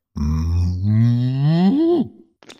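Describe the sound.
A person imitates a cow with one long, low, drawn-out moo that rises slightly in pitch before breaking off, followed by a brief breathy sound.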